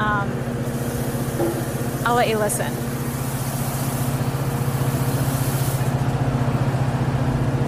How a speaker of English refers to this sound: So there's all these chains and pulleys being moved around. It's windy out. Pretty big waves, actually. Some of the biggest we've seen.